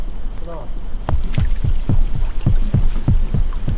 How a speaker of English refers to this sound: Roundtree captures these haddock breeding as boats buzz in the background.